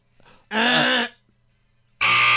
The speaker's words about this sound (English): Why are you always late on the buzzer?